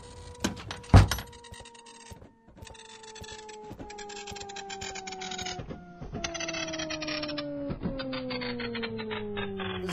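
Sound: printer running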